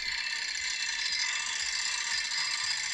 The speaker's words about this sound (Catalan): Són les obres que tenim aquí davant. Això... I... Tot el dia.